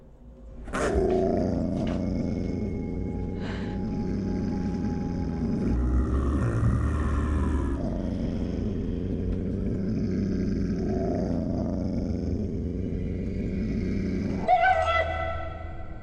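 dog growling

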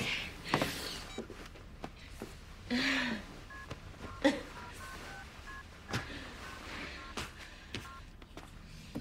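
telephone keypad dialing tones

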